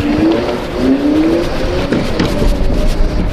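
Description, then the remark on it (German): An electric scooter motor accelerates, its whine climbing in pitch in two quick upward sweeps over a steady, fairly loud rushing hum, a bit like a small vacuum cleaner. “Beschleunigung ist bei so einem Elektroroller wirklich extrem.”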